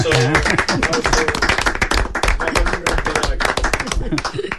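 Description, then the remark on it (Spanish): An audience applauds with dense, steady clapping that stays loud for nearly five seconds, with a few faint voices mixed in near the start. “Aplausos.”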